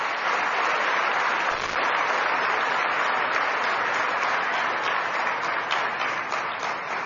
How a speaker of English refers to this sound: Let us have a loud of applause to welcome Sucharita Aunty.